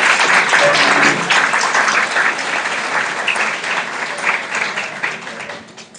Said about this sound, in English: There's one group, obviously, that I did not think when I made my announcements early this morning, and that is our meditation instructors. Please show me right now by giving them a big round of applause.